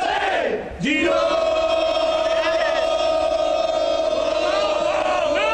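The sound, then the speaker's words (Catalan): The Girona team in the locker room at Vallecas bursts into a loud group chant of "Girona!", many voices holding one long, sustained shouted note after a brief rising cry at the start. “Així ha sonat avui el vestidor de Vallecas.”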